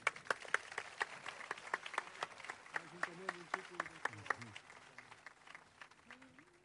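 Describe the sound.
An audience applauds to thank the sound team at an event, with steady, dense clapping that carries through the whole moment at a moderate level, while a few voices murmur faintly beneath the claps.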